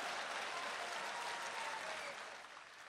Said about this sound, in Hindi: और अब आपकी तालियां उठेंगी।